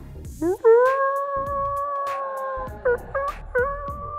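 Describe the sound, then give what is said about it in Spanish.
A voice imitates foxes and wolves howling as the sun sets: a long, rising and sustained howl, followed by a few short yipping howls, loud with nothing else around it. “Comenzaban a sonar zorros, huevón, lobos.”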